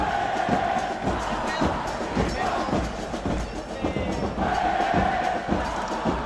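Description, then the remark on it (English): A dense crowd of soccer supporters at Estadio Caliente in Tijuana, Mexico, chants and roars in unison on game day, loud and continuous, with rhythmic thumps punctuating the sustained wall of voices. “One group of supporters, known as the Massacre, rallies the crowds.”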